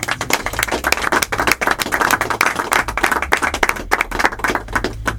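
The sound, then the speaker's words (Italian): A crowd applauds steadily, dense overlapping handclaps forming a continuous rattling wash that holds its loudness for several seconds with no voices over it. “Io farei un grazie applauso.”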